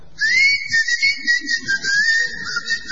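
A person whistles a steady, wavering melody for about three seconds without pause, clear and fairly close, over a faint low rumble of background sound.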